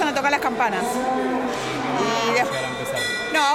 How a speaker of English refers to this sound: The bells start ringing at 7:30, says …. When buyers see there are enough people, the bidding starts, and they move from one auction to the next.